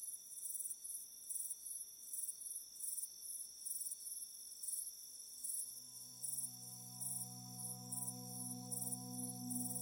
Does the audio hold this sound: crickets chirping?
yes